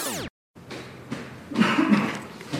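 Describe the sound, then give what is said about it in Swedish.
Sweden's state epidemiologist Anders Tegnell coughs several times while climbing a spiral staircase up to a reception area, the harsh bursts coming in uneven succession and growing louder as he approaches, with no talking. “Redan på avstånd hör jag att det är Sveriges statsepidemiolog Anders Tegnell som hostande kommer upp för spiraltrappan till receptionen där jag väntar.”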